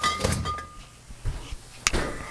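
A fridge door is handled and pushed shut as leftover ground beef is put back inside, with low muffled thumps, a faint clink of glass, and a sharp thud as it closes near the end. No one speaks.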